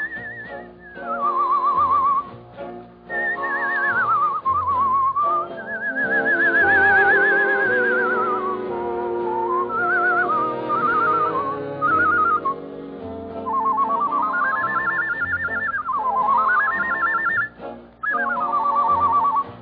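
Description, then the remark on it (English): A whistler whistles a long, warbling, birdlike melody on a show, sliding and trilling like a songbird, loud over steady instrumental accompaniment for nearly twenty seconds. “… was a fellow named …, and he could out-whistle a flock of nightingales.”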